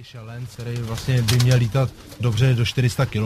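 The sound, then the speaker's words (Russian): A sturdily built homing pigeon, a racing bird bred for short and middle distance competitions and able to fly up to 400 kilometres, coos in a run of throaty, rolling calls, each swelling and breaking off in quick succession with short gaps between, fairly loud throughout. “Вот гляньте на этого Сизаря, у него весьма крепкое телосложение, он предназначен для соревнований на короткие и средние расстояния и способен летать до 400 километров.”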